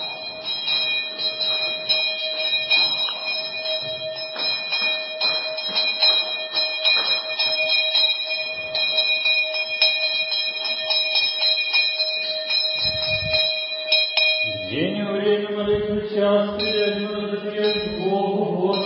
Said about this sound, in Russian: это участие в молитвах, это бдение, этот колокол, который будил на молитву, не забуду никогда.